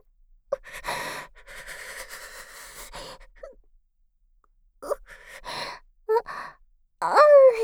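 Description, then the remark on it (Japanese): A woman's long breathy exhales give way to short catching gasps and a loud, strained voiced burst at the end as she holds back a sneeze and it turns into an odd breath. “くしゃみ出そうになっちゃって。我慢したら変な息出ちゃった。”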